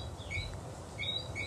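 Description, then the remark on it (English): High, thin whistling chirps from a whistling frog in Barbados on a rainy day repeat in short rising notes, a couple of quick calls answered by others, over a steady low background hum with no one speaking. “That is actually a whistling frog.”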